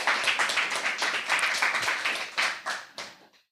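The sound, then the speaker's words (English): An audience breaks into steady applause welcoming a speaker for a talk on running Android on the mainline Linux graphics stack, many hands clapping densely and fairly loud, then thinning out to a few last scattered claps before fading away. “A warm welcome and a warm applause, please.”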